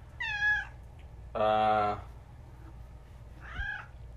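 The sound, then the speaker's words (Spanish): Several cats meow insistently to be fed, three distinct calls with a pause between: a rising meow, a longer loud harmonic yowl, then a softer one, over a low background hum. “Necesito darle de comer a estos gatos porque no dejan de estar chingando.”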